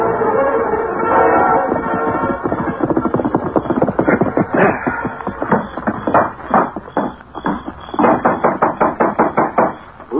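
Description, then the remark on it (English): Loud, insistent knocking on a wooden door at the sheriff's, a rapid flurry of heavy blows that speeds into a hurried pounding rhythm, with no voices. “Open the door, Sheriff.”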